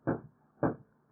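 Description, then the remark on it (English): Two muffled booming shots from a 40 mm Duster anti-aircraft gun, about half a second apart, each a dull low thump that quickly fades, fairly faint, with no talking. “Got a 40 millimeter duster working out there and some apparently dukes outside the perimeter.”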